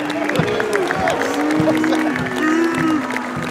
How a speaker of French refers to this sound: Alors ça, ce sont les applaudissements en face. Il n'y a pas beaucoup de gens qui applaudissent ici.